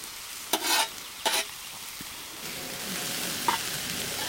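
Vegetables with spices, onion and garlic sizzle and fry in a pan with a steady hiss as they are mixed together, broken by a few scraping stirs near the start and a light clink later, with no voices.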